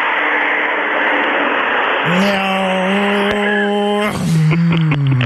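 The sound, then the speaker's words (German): A car goes by loud, its rushing road noise joined by a rising engine whine that shifts pitch as it changes gear and pulls away. “Von daher müssen wir das akzeptieren, dass ab und zu mal hier ein Auto für durchfährt.”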